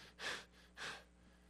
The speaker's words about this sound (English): And there I stand, there's sweat here, sweat running down my... And I'm breathing heavy.